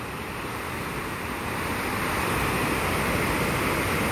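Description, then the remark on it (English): Steady, broad wash of water waves rolling in, a continuous rushing surf that swells slightly louder partway through, with no voices. “Again, water, I am grateful. I am blessed. Thank you.”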